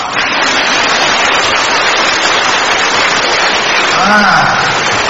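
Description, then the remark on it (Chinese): An audience at a talk on Buddhist teaching applauds steadily for about five seconds, a dense, even wash of clapping that stays loud throughout, with a brief voice rising faintly near the end. “开悟，想不通就叫开悟，鼓掌。”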